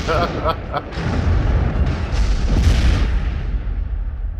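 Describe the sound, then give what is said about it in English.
A brief voice, then a massive explosion from within a mansion erupts into a deep, sustained rumbling roar that fills the next few seconds, loud before slowly easing off. “The governor steps up, spreads his wings, opens his beak, whereupon there is a colossal explosion from within the mansion.”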